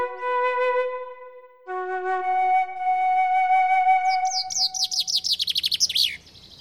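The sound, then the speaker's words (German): Fainter whistled bird notes, then a loud, bright song of rapid descending chirps ending in a quick flourish from a common chaffinch, with two song thrushes singing in the distance, one behind and one in front, repeating motifs, in the Grunewald forest in Berlin. “Das Laute war jetzt der Buchfink, dieses so in der Entfernung singen zwei Singdrosseln, eine hinter uns, eine vor uns.”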